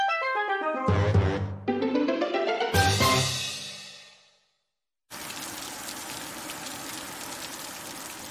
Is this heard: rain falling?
yes